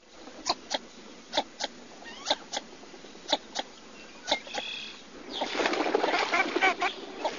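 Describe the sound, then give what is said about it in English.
A dabbling water bird gives short, sharp duck-like calls, often in quick pairs at a steady pace, then breaks into a louder, raspy flurry of overlapping calls near the end. “What kind of a sound does it make? Well, it's very duck-like, not an aria from the opera.”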